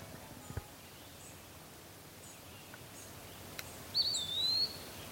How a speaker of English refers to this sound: That sound, pee-a-wee. That's kind of what it says. It's a flycatcher and it's called a wood pee-wee, eastern wood pee-wee. And of all the birds, that's one of the ones that actually does say its name.